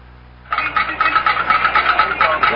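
A metal pan being rattled, starting after a brief quiet moment and continuing as a loud, rapid, steady clatter with a bright metallic jangle and no voices.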